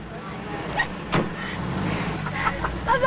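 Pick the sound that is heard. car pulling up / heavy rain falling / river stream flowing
car pulling up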